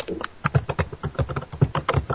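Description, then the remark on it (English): Rapid, uneven typing on a computer keyboard fills the moment, a steady run of sharp plastic clicks and taps at a moderate volume with no voices over it. “Man, I can hear you banging away on that thing.”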